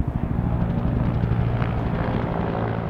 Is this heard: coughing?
no